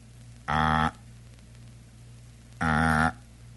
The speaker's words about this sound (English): This has gone on now for 5 minutes. It's the sound of a number being rung.